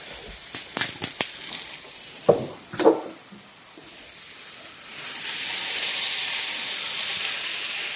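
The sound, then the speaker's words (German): A few sharp clicks and taps of cookware, then a piece of butter hitting a hot pan and sizzling, a steady hiss that swells and holds through the second half. Nobody speaks. “Das berühmte Stück Butter.”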